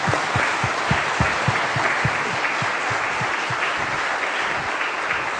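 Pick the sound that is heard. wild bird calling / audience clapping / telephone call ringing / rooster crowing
audience clapping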